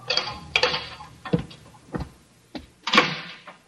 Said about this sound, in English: Then footsteps sound on the corridor. The door opens.